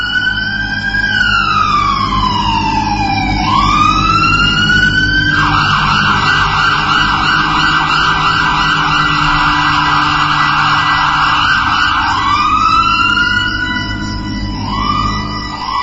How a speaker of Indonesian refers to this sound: Baru saja aku masuk, datang mobil ambulans dan membawa pasien seorang laki-laki turun dari mobil.